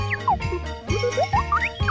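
A bouncy 1980 disco Christmas song with jingling bells and sliding synth tones over a steady, thumping bass beat, playing loud with no voices.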